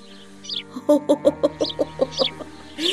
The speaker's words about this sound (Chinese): 我正担心身后我妈的大嗓门把燕宝宝吓着了，却见燕宝宝冲着我妈啾啾的叫。